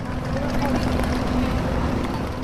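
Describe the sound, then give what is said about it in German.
A steady, dense ambience in the port of Barcelona at 11 a.m., with a low engine-like rumble of buses waiting with engines running and a faint sustained hum, a broad wash of background noise throughout. “11 Uhr im Hafen von Barcelona.”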